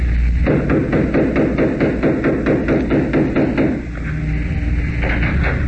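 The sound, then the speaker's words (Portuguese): A rapid, steady series of loud knocks on the door of an old, dilapidated two-story house, a dozen or more sharp raps, stopping after a few seconds and leaving a low background hum. “Ué, ninguém atende. Teria sido um trote. Bata de novo, doutor.”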